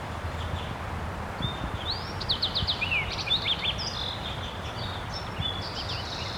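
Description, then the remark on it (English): A wild bird sings a quiet, soft song, a run of thin, high chirps and short rising and falling whistles, some quickly repeated, over a steady low background hiss. No one talks. “Recording the wild bird doing some soft song.”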